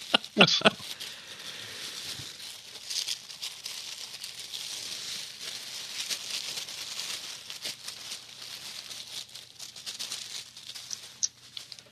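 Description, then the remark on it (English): Continuous crinkly rustling of hands digging through packing peanuts, a dense hiss of light plastic-foam rattles with a few sharper crackles near the start, steady and moderately loud throughout. “Next, more packing peanuts. More.”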